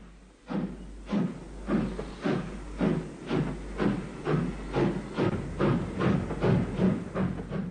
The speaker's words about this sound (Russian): Раздался свисток. Локомотив тронулся. Мы поехали.